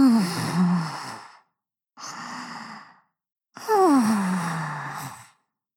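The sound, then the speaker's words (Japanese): A voice imitates the contented snoring of a little pig character who has crawled under a warm futon: three drawn-out, breathy snores with a gently falling pitch, fairly loud, separated by short silent pauses. “ですが、小豚くんは暖かそうなお布団を取り出して、その中に潜り込むと、幸せそうにいびきをかき始めました。”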